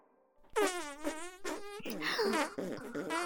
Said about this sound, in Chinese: 臭屁室里有许多通风口，每一个通风口的另一条都连着一只臭肉娘的屁股。臭肉娘们就对着通风口不停的放屁。